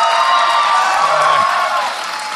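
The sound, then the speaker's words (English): A crowd applauds and cheers steadily as actor Keith Powell is introduced, a dense, loud wash of clapping with a few whoops mixed in, fading slightly toward the end. “Don't clap. You know you're disappointed.”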